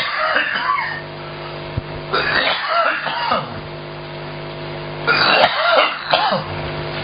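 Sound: coughing and throat clearing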